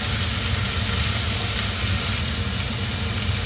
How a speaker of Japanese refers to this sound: なかなかね、やっぱりこうやって冷蔵庫にねあるやつも、今回は余ってる食材も一緒にぶっ込んで、肉野菜炒め作ってるんですけど